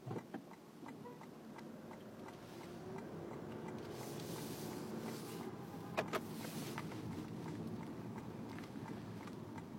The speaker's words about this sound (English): Why is this car backing up?